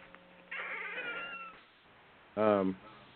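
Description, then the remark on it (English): A squeaky door sound effect: a drawn-out, wavering creak followed, after a short pause, by a brief, louder high squeal with a mewing, almost cat-like tone. “Squeaky door, put some oil on that hen. Brand new effect.”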